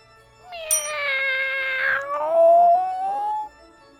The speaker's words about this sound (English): After just a few steps inside, we heard a cat sound seeming to warn us of danger.